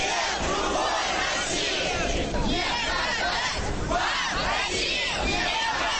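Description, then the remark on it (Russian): A crowd of a little over a hundred young people with flags and placards chants and shouts slogans at the leaders and supporters of 'The Other Russia', about 50 metres from a concert hall entrance, watched by OMON riot police and militia. It is a loud, steady roar of many voices with rhythmic swells and no pauses. “Кричали и скандировали молодые люди под чутким присмотром ОМОНа и милиции.”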